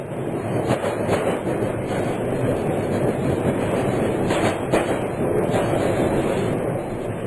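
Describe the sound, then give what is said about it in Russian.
A train hauled by a diesel locomotive pulls away with steady, loud rumbling and faint rhythmic clatter of wheels on rails, a continuous mechanical roar with occasional brief clanks, no voices. “Поезд тронулся.”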